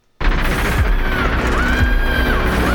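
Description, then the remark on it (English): Harsh screamed vocals ride over a loud, dense wall of distorted music that bursts in suddenly and stays at full volume, the voice holding strained, wavering high notes. “That screaming is really leaving me cold.”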